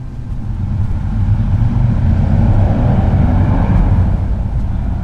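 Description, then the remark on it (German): A very loud motorcycle roars past in front of a house on Schillerstraße in Wolfsburg, its deep engine rumble swelling to a peak midway and then easing off slightly as it moves on, with no voices. “In dem Moment fährt vor dem Haus ein sehr lautes Motorrad vorbei.”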